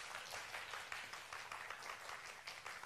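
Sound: audience clapping hands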